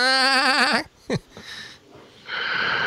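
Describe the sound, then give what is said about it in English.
A voice imitates a sheep's bleat: a loud, quavering 'baa' with a shaky tremble, a short gap with a quick burst, then a second rougher bleat trailing off at the end. “So you sound like a sheep. Like those YouTube things.”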